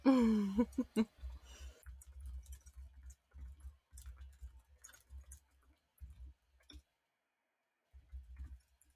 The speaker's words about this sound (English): Hold on. Hold on. You can hear. This is my ASMR typing.